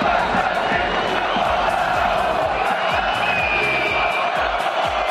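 stadium crowd chanting

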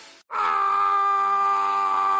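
a scream

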